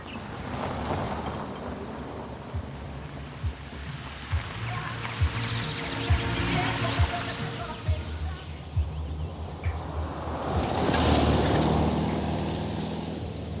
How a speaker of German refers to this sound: Und die Leute, die ihm nachfahren, die ganzen dicken Autos, das sind sicher die Besucher, die sich die Baustellen angucken.